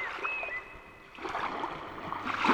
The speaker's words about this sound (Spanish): Para los que no vayamos a Valladolid, nos quedamos en Coruña escuchando este sonido del mar